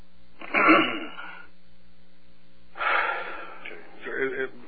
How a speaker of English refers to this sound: What's the matter? Terrible coughing.